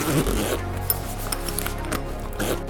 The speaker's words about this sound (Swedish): De specialdesignade dragkedjorna bygger i det här skedet på två kraftiga mässingskedjor som när de stängs pressar ihop en gummipackning mellan sig. Konstruktionen fungerar men den är stel, känslig för slitage och kräver ständig återtestning.